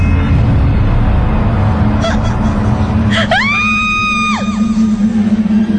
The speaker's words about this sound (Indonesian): aku pun akhirnya bisa berteriak.